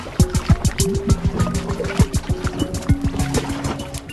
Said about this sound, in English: The creaking of glaciers and the drip of glaciers and the music of the wind.